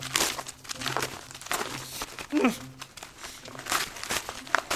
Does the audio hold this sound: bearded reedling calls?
no